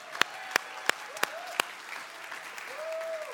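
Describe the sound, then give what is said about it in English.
An audience at Santa Maria Foursquare church applauds Sunday school teachers: five sharp, distinct claps ring out in a steady rhythm, then give way to a softer wash of crowd noise with a brief rising whoop. “And Sunday school teachers, can we hear it for Sunday school teachers?”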